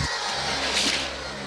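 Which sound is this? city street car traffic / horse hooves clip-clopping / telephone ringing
city street car traffic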